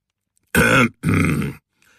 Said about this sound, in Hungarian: Megköszörült a torkát, és azt mondta.